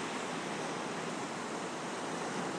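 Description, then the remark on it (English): Ocean surf on a beach at high tide roars in a steady, unbroken wash of hiss and rumble, with no distinct individual wave crashes standing out and no voices. “I'm on a beach where it's wavy and it's high tide.”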